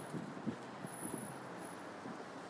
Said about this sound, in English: The cars.